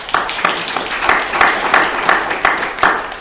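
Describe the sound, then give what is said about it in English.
An audience at a talk bursts into steady applause for the speakers, many hands clapping together in a dense, sustained patter with a few sharper claps standing out, loud throughout. “Can you have a nice round of applause for everybody?”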